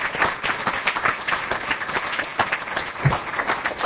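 An audience applauds steadily, many hands clapping in a dense, continuous patter that stays at an even loudness throughout, with no voices standing out. The applause is for the volunteer table facilitators and theme team members.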